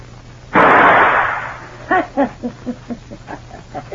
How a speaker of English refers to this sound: You see that gun laying on my dresser? Uh-huh. I'm going to count three. Get it and shoot the key out of the door behind you. Don't worry about the door or the noise.